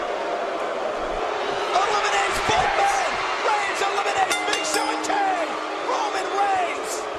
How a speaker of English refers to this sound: They're all booing. Now, why does everybody hate Roman Reigns?